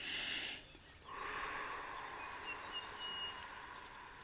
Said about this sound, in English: We will begin by taking a full deep sip of air in through the nose, followed by a long, slow exhalation through pursed lips to the count of eight. So it sounds like this.